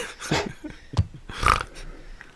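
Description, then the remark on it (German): A few short, guttural pig-like grunts, rough and snorty bursts around a brief silence, with no talking over them. “Oh, da wurde mal kurz gegrunzt.”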